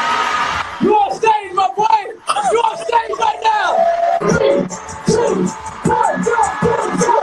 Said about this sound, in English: He even had a soundtrack of a cheering crowd, which was incredible.